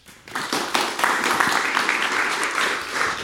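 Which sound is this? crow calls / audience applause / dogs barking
audience applause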